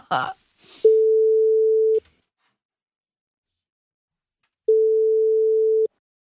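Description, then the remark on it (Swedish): A phone's ringback tone while calling: two steady, loud one-second tones separated by a long pause, following a brief burst of voice at the start. “Vi ringer honom och frågar.”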